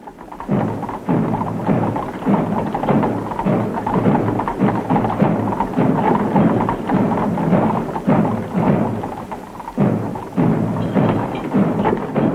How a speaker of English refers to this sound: on the Sunday after the president's assassination, the president's flag-draped coffin, transported from the White House to the Capitol by horse-drawn cart to the sound of muffled drums as hundreds of thousands watched